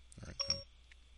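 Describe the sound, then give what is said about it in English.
A quick, soft electronic chime from an iPhone, the Siri activation tone, rising through a couple of bright blended notes in under half a second, then quiet room hum. “Ooh, can I use my new phone? My iPhone to find where Kimi is? Hold on, we gotta ask Siri.”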